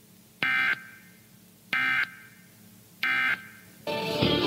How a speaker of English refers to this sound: The following tones conclude this test of the emergency alert system.